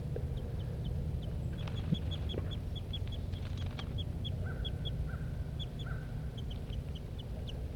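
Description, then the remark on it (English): Two birds near their nest call back and forth: a steady series of short, high chirps repeating rapidly, joined midway by a few longer, lower whistled notes, all over a constant low rumble. “Both birds near the nest.”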